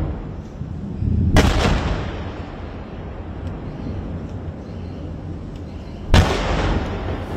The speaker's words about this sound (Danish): Desuden er mindst en person død efter angrebene, fremgår det af opslaget, og sådan her lød det i Tel Aviv, da nogle af missilerne slog ned.